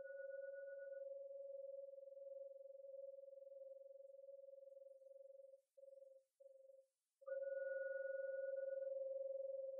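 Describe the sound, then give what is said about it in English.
A meditation gong, rung three times to end a meditation, rings with a long, steady, pure hum that briefly flutters and breaks up, then swells back louder as it is struck again. No one speaks. “So I'm now going to ring the gong 3 times to end the meditation.”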